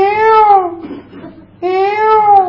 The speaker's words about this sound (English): But so it was just evening, so all the birds were singing. Huh? Peacock was calling.